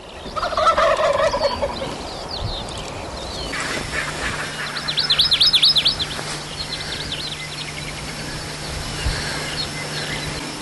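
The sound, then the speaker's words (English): Wild turkeys gobble in the dark at their roost in rapid rattling bursts, one near the start and another mid-clip, with fainter calls and a steady hum of insects or background noise throughout. “It's too dark for video, too dark to see the turkeys, but you can hear them.”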